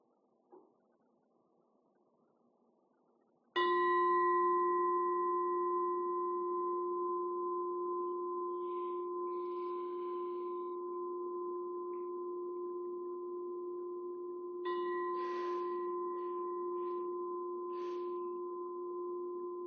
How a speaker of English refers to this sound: With this determination, you can listen to the sound of the meditation bell and let yourself remain grounded in this moment.